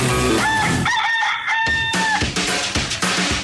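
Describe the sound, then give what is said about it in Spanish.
A rooster crows once, loud, its long cock-a-doodle-doo rising and then holding steady over a dense, busy background. No one speaks. “Así es el gallo.”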